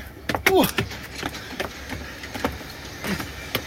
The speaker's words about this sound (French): La fermeture des portes est imminente. Attention au départ.